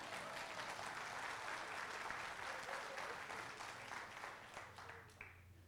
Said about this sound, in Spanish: Un aplauso para el que descubrió eso.